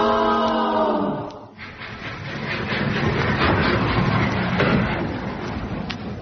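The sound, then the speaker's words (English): A train pulls into the station. A drawn-out squealing tone slides down at first, then a loud, steady rumble and hiss with faint clanks continues to the end. “They get to the station and hear the clock chime. And would you believe it, the train was on time.”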